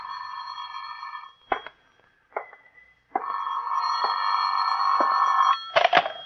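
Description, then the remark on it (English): An old-fashioned telephone ringing in an office in sustained electronic tones, with brief pauses between bursts and a few sharp clicks, fairly loud with no talking. “Phone's ringing, Johnny.”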